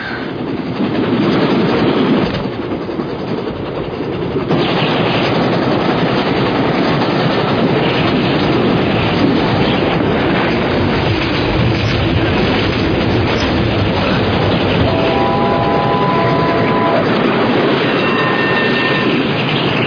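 A train's carriages rattle and rumble steadily along the rails, loud, with a brief metallic squeal of wheels near the end and no talking.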